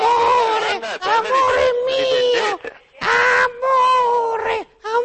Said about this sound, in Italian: Sono toscani? Com'è? Si sono di origine toscana i due pappagalli. No, i pappagalli sono brasiliani. Ah, brasiliani.